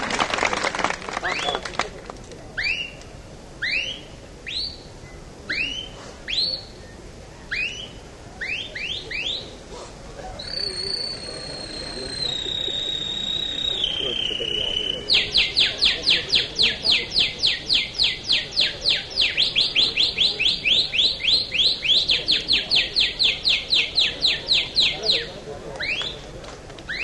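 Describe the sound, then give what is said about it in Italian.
A man on a stage whistles a convincing imitation of a canary's song before an audience at a bird fair: quick rising chirps, a long held tone, then a rapid, loud, sustained trill, clear over faint background noise. “Questo non era ovviamente un canarino, ma era un signore che su un palco si esibiva nel corso di una manifestazione che è la Fiera degli Uccelli”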